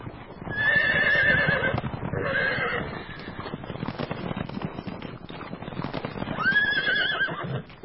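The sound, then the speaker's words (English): Horses neigh loudly several times, with high wavering whinnies near the start and again near the end, over a steady background of hooves clip-clopping and clattering throughout. “The horses knew their way in, where they were going.”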